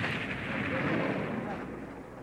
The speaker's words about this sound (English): To effect attacks on the model by the rebel planes, explosions are sometimes triggered by primitive mechanisms.